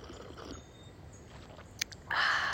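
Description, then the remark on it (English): A quiet stretch of low background noise, a faint tap, then one loud slurp of tea that swells up near the end and runs to the finish. “Wait, I'll give you a slurp.”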